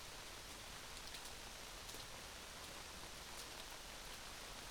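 rain falling

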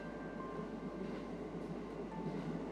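train running

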